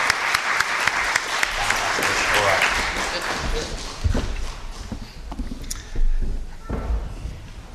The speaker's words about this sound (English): Can we give the little man a round of applause for doing such a good job?